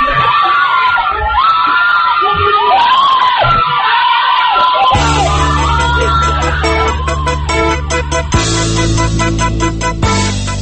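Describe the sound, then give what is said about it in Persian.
A crowd screams and shouts in loud, chaotic panic, many voices rising and overlapping, as a white and green van changes gear and runs over a man during Ashura 88 street protests. About halfway through, a steady, ominous musical drone swells in beneath the cries. “وانت دیگری سفید و سبز از سمت چپ دور بر می دارد، دنده عوض می کند و از روی مرد می گذرد و فریادها رنگ فوقان می گیرد.”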